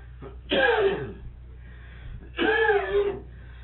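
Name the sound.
coughing fit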